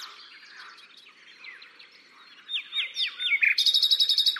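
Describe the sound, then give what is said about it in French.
A common nightingale near water in the undergrowth sings a varied phrase of whistles and chirps, starting softer and building into loud, rapid repeated notes ending in a fast, bright trill, with no voices present, answered by another nightingale in the distance. “Il y a un autre rossignol au loin, et ils se répondent, ils s'écoutent.”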